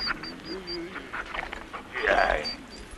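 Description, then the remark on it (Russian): A dog pants in quick breathy bursts while letting out a series of thin, high-pitched whimpers, with a person's voice murmuring softly alongside, praising the dog. “Ух ты какой, хороший ты, собака, друг ты мой.”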